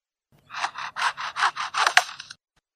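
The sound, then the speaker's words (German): An Albert's lyrebird mimics a handsaw it heard from construction workers, with a quick run of about eight rasping back-and-forth strokes, fairly loud, lasting roughly two seconds with no talking. “Also zum Beispiel hier, dieser Graurückenleierschwanz versucht hier mal eine Säge nachzumachen.”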